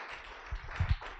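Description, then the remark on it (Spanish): A church audience applauding together for the Lord and for a pastor, a steady wash of clapping, with a couple of louder claps standing out near the end. “Un aplauso al Señor por la vida de nuestro querido hermano.”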